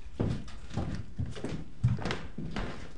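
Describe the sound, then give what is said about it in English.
A perfectly round door being opened during a tour of the Palace of Depression, a brick and glass castle, with a run of short creaks and dull knocks repeating roughly every half second, moderately loud with no one talking. “We've climbed through a perfectly round door, squeezed through narrow hallways, and now we're entering the basement of the Palace of Depression.”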